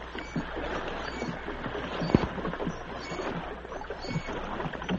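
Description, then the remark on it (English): Oars dip and pull through water as a small boat is rowed alongside a ship, with steady splashing strokes and a sharp knock partway through as the boat scrapes against the ship's side, over a constant low wash, moderately loud. “As Nick rowed, the captain cut the ropes on the sergeant's wrist. The small boat scraped against the side of the ship.”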